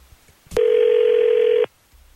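A single ringback tone on an outgoing phone call placed by the 102.9 The Wolf morning radio show for its Second Date Update segment: a click, then a loud, steady mid-pitched buzzing tone lasting about a second before cutting off, with quiet before and after.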